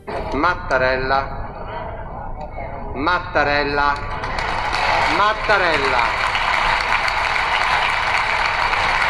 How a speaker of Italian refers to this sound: Questo è l'inizio di un lungo applauso che ha suggellato la rielezione del Presidente della Repubblica Sergio Mattarella